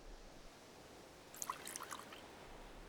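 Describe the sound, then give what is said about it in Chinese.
Liquor is poured into a glass in a short, bright trickle with a few splashy bursts, fairly quiet over a low background hiss, with no talking. “那我得继续放慢速度了，可不能让你喝得那么快了。”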